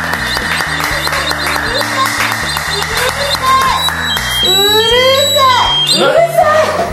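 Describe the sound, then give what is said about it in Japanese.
A new siren-like two-tone "pee-po" ringing call alert sounds repeatedly at a birthday party venue, high and piercing, over a busy background of voices and noise, with warbling sweeps toward the end. “5月24日、 新しいなんか呼び出しは今ピーポーピーポーって。”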